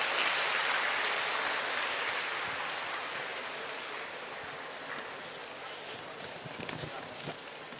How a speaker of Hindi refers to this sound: जोरदार तालियों से उनका आमंत्रण करेंगे।